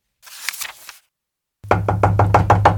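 A soft rustling sound, a brief silence, then a quick, steady run of about eight loud knocks on a wooden door, each with a deep, resonant thud.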